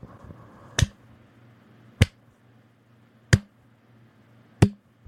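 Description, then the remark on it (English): A slow clap after two brothers finish singing: four sharp, crisp claps spaced evenly about a second and a quarter apart, standing out clearly over a faint low hum with no talking. “Slow clap.”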